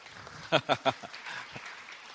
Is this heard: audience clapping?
yes